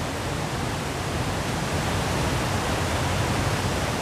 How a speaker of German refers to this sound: Das Rauschen führt uns zu den Niagarafällen.